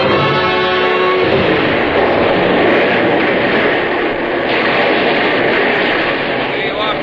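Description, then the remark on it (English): An artillery bombardment from many guns behind a dugout blends into a loud, unbroken roar of rumbling, crackling noise that holds steady for the whole stretch, with a brief tonal hum at the very beginning. “And as we returned to the dugout with food, from all the guns behind us, the bombardment started.”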